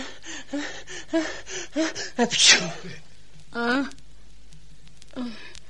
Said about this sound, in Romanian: Îmi vine să strănut. Țineți-vă pentru Dumnezeu. O să speriați pe majestatea sa.